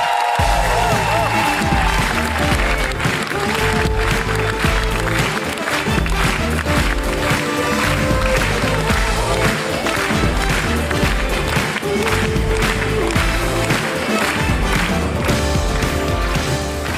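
An audience at a stand-up comedy show applauds a comedian loudly and steadily for the whole stretch, a dense wash of clapping with what sounds like music playing underneath.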